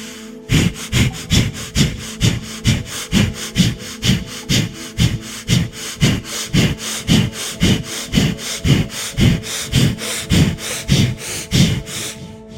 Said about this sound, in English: Begin now. Fire breathing, rapid and powerful, in and out through the nose.